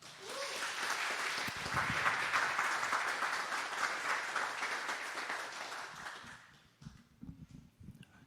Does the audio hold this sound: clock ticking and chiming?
no